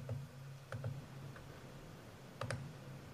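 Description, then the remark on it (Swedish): Several sharp computer mouse clicks, some in quick pairs, spaced irregularly over a few seconds against a low, steady hum, as someone selects options in a poll about farm animals; fairly quiet, with no talking. “Nu har jag klickat i mina, så nu ska jag rösta.”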